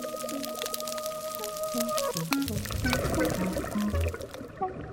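Dense, continuous crackling of snapping shrimp underwater, their claws snapping shut so fast they create cavitation bubbles, used to communicate and hunt; countless sharp clicks popping like frying fat, with low tonal calls drifting through the background and no voices.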